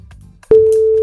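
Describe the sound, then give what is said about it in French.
A telephone rings for the second time on a call, with a single steady electronic tone that starts abruptly halfway through and holds loud and even to the end, with a faint murmur of background noise before it. “Deuxième sonnerie, on peut pas dire une bonne chance.”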